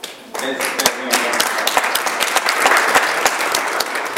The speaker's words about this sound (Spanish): Vas a sentir bien, así que quiero que se den un fuerte aplauso.